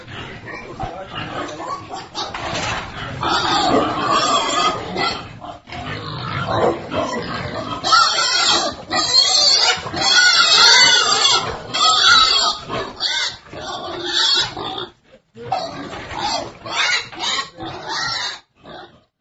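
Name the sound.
pigs grunting and oinking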